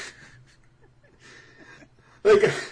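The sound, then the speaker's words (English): A person imitates the sneeze the character Bakel gives in his introduction, a single loud, breathy "achoo" burst at the end, after a stretch of quiet, murmured talk. “He sneezes in his introduction, which seems weird to me. Like, it's not very... He's like, achoo!”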